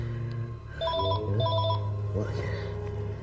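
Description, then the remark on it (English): A telephone rings with two short, bright electronic trills in quick succession, fairly loud, over a steady low hum, followed by a voice speaking briefly. “So there he is, full beard grown, won't leave the phone.”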